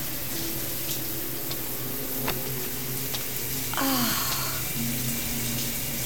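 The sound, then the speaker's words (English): Steady, hissing rush of running water from a hot shower fills the space evenly from start to finish, spraying continuously, with a few faint clinks and a brief tonal squeak partway through. “Oh, but you do have a shower.”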